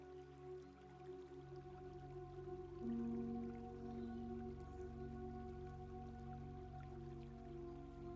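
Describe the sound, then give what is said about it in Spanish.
Steady flowing water of a small stream, with a dripping, trickling texture, runs continuously at moderate loudness, layered over a low, sustained droning hum, with no voices present. “Continúas tu paseo siguiendo el riachuelo, caminando a un ritmo agradable y tranquilo junto a él, disfrutando del sonido relajante del agua que fluye y del sonido y aroma de la naturaleza.”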